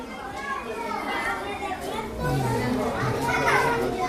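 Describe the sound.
A crowd of schoolchildren in the Valencia region of Spain shouting and playing in the street, a steady lively mix of high excited voices, calls and chatter overlapping, with louder bursts of shrieks toward the end.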